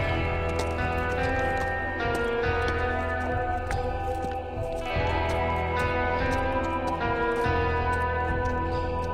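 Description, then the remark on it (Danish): Slow, unhurried clip-clop of a saddled horse's hooves plodding along at a walking pace as it is ridden calmly into town, set against a steady, sustained musical backdrop that continues throughout. “Så rider du stille og roligt ind mod byen.”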